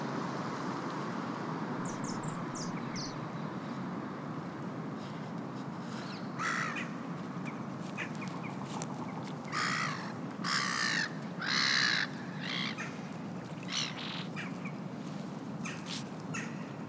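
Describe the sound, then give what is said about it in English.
Ducks and birds call and squabble outdoors by a small lake, with harsh cawing bursts clustered in the middle and a few thin chirps early on, all over a steady wash of background noise. “I stop there to listen to ducks and birds fighting and singing.”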